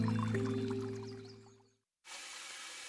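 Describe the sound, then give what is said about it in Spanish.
A soft musical tone fades into a brief silence, then water suddenly starts gushing steadily from a tap, being wasted, a loud, even rushing that continues to the end. “Este eres tú gastando agua.”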